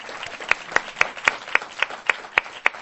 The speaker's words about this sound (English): And by the way, all the musicians, give them a round of applause.